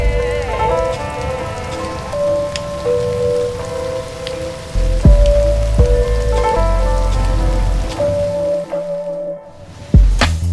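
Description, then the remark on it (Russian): Steady rain patters continuously across a surface, with sustained musical tones and a few low thuds beneath it, and a brief dip toward silence near the end. “Удивительно, такой дождь, как в фильмах.”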